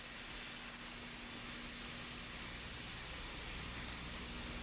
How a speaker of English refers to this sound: Later that night, the Stivics TV plays static, and Teresa sleeps on the living room couch.